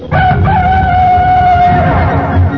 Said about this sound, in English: And some people wake up to the sound of a rooster.